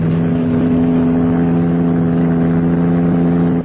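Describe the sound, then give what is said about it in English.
A car driven by a woman drives past, its engine droning loudly in a steady low rumble with a firm pitch that holds even for a few seconds, with no voices over it. “The bird driving that car.”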